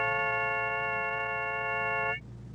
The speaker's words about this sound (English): an optophone, a kind of scanner that would look at text and turn it into a series of tones representing the shapes of the letters.